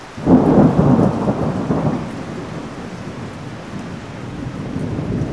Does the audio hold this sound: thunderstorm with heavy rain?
yes